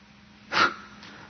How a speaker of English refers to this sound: And I'll clear my throat and we'll go on.